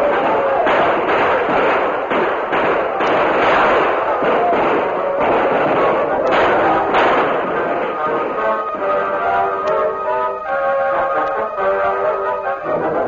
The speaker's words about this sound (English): Then a welcome sound was heard. Tom Fuller, leading about 30 men, galloped into the village with guns barking.